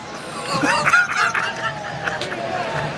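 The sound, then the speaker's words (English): A person mimics chickens, letting out a quick run of squawky, warbling clucks, then trailing off into a thinner, drawn-out call. “We farm our own chickens, homie. Thousands of chickens. Thousands run around everywhere.”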